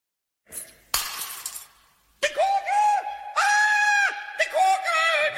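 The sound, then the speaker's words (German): In a Pumuckl audio drama, a glass ball drops and shatters in one sharp, bright crash with a tinkling tail, followed by a voice crying out in long, wavering, high-pitched wails. “Ich hätte die Kugel viel fester gehalten.”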